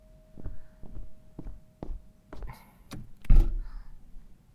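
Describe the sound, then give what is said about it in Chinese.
A handful of steady footsteps cross the floor, followed by clicking of a latch and a heavy thunk as a door is pulled open to let in someone who has arrived, with no one talking. “好像来了，你等一下，我去帮他开门。”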